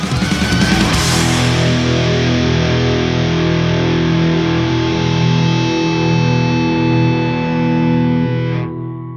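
A loud, distorted rock track with heavy guitar and a dense, sustained sound plays for about nine seconds, then cuts off abruptly. No one speaks over it.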